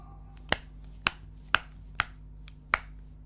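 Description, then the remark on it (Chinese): Five crisp, sharp snips of scissors cutting through something that bleeds, evenly spaced about half a second apart, fairly loud against a quiet background with no talking. “还差两剪刀就彻底的断了。”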